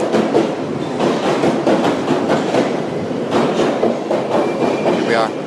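train passing

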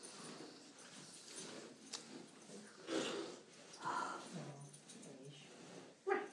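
dog sniffing

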